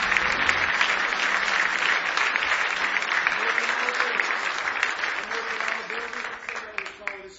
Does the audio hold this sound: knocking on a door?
no